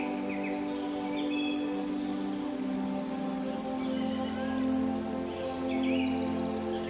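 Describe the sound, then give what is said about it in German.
Birds chirp and warble intermittently over a steady low buzzing hum of insects in meadows on both sides of a field path, an even outdoor ambience with no voices. “Zu beiden Seiten erstrecken sich Wiesen, aus denen das Brummen von Insekten und der Gesang von Vögeln an dein Ohr dringt.”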